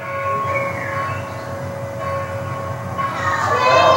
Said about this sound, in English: Yeah. Well, we'll just call it a church bell.